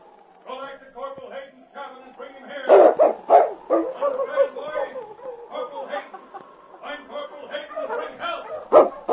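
The dog King barks several times at Corporal Hayden's cabin in irregular bursts, mixed with yips and whining sounds, loud, with the sharpest barks coming near the middle and end.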